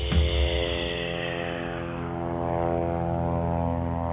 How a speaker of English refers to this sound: Look up the quiet airplane. The quiet airplane.